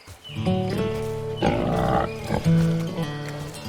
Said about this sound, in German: Oh, heiliges Schweineohr. Das sind ja totale Süßlinge. Wie die hier als Mini-Ferkel-Gang durch die Gegend rennen und wie hektisch sie das Futter aus der Hand fressen. Was für ein schönes, braunes Fell sie haben, wie ein Herbstblatt.